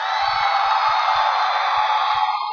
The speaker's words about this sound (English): That's the next generation of FFA right there. Illinois FFA, can you join them? Clap for me, please.